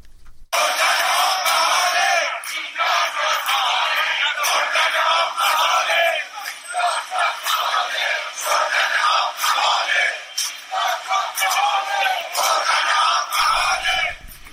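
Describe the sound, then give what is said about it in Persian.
A large crowd of protesters shouts and chants together during a street march in Shahrekord, Chaharmahal and Bakhtiari province, protesting water shortages on a Monday, their second day of marching; a dense, loud wall of voices that swells and dips in rhythm for about thirteen seconds before cutting off. “معترضان به کم آبی در استان چهارمحال و بختیاری روز دوشنبه برای دومین روز به راهپیمایی خود در خیابان‌های شهر کرد مرکز این استان ادامه دادند.”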